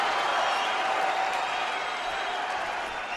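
crowd cheering

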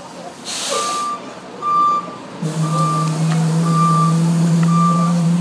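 bus pulling up

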